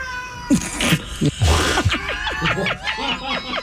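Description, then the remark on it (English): A cat meows and yowls several times in a row, loud, with drawn-out wavering cries, over a faint background hum. “The cat's like, I concur.”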